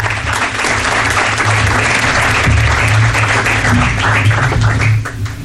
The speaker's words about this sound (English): And let's just thank the park staff again with a round of applause.